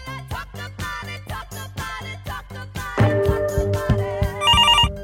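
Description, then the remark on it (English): A rhythmic electronic beat gives way to sustained synth tones, then a trilling telephone ring warbles in near the end, loud and up front over the music. “Pick up the phone, Lower Mainland.”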